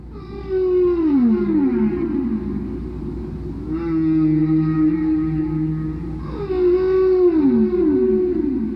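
Whale song: long, moaning tonal calls that sweep downward and glide, repeated in three drawn-out phrases with rich harmonics, heard alone with no talking.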